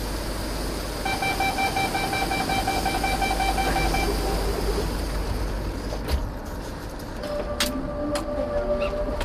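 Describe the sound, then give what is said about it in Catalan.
Steady low rumble inside a moving Ferrocarrils de la Generalitat commuter train on the Vallès line in the morning, with a sustained tonal signal sounding for a few seconds early on and a couple of sharp clacks later; no one talks. “Ferrocarrils de la Generalitat, línia del Vallès, 2:15 de 8 del matí.”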